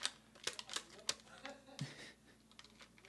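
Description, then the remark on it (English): Irregular clicks and light crinkles of someone fiddling with a twist tie on plastic toy packaging, a quick flurry of small taps followed by softer rustling. “It looks like tape, but it's not tape. It's a twisty tie.”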